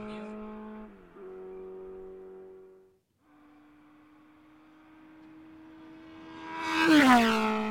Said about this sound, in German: Motorrad. Richtig, und was für eins? Honda. Ja, ein Rennmotorrad.